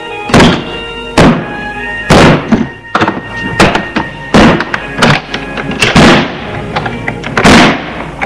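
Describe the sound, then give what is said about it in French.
A father forces open a bedroom door: a series of heavy, loud thuds and bangs at an uneven pace, each blow ringing briefly, with some creaking and rattling between the hits. “Charles dit, va forcer la porte.”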